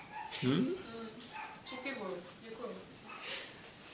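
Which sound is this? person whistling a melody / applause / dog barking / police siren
dog barking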